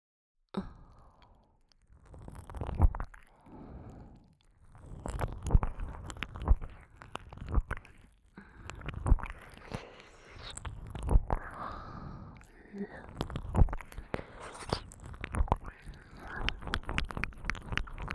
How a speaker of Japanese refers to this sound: では次は耳なめも加えて、三点攻めしていきましょう。